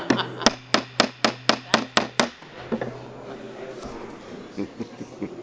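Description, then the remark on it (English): A gavel raps about nine times in a quick, steady rhythm, sharp, to call order at a meeting, then stops, leaving a low murmur of room noise and faint voices. “Put the hammer. Look the hammer.”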